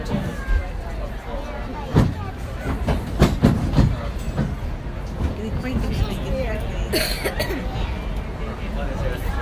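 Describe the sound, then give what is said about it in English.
A Disneyland Railroad passenger train at Disneyland rolls along its tracks toward New Orleans Square with a steady low rumble and sharp rhythmic clacks and clunks, with people talking faintly in the background. “Welcome aboard the Disneyland Railroad.”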